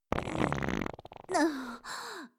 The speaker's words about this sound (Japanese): やっぱり、くっさい屁しか出ませんわ。ねえ、のたうち回るほどくっさいでしょ？